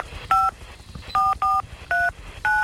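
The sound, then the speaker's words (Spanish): Five crisp touch-tone keypad beeps, each a short dual-pitched tone, pressed in a quick uneven rhythm over faint low background rumble, with no talking. “Hace una llamada desde su teléfono.”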